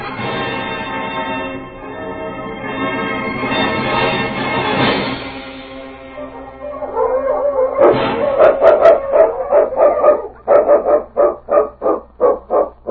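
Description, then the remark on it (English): A dog gives a long, drawn-out howl, then breaks into a quick series of loud, rhythmic barks, with no one talking. “What is it? Has King found something, Sergeant?”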